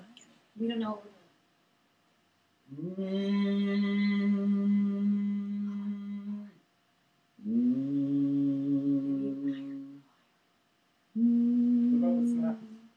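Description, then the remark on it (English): A person hums in long, steady low-pitched notes: a brief opening sound, then three sustained hummed phrases of several seconds each, separated by short silences. “I'm going to hum, and we'll see if we can get into it.”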